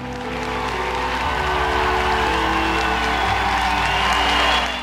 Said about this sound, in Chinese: 林肯讲话结束之后，听众好几分钟热烈鼓掌，然后开始散去。